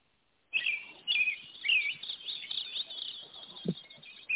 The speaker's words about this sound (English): And then they can relax and enjoy the beautiful sounds of the songs of birds.